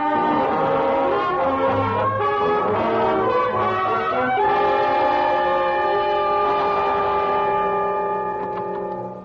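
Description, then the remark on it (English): A loud train rumbles steadily along the rails for about nine seconds, with sustained horn-like tones ringing over the clatter and no voices. “Where there's peace, gentlemen, and quiet. Away from trains, gentlemen.”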